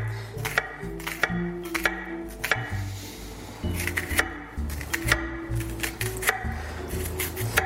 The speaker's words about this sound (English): So let's do a little prep. Gonna dice up my onion real quick.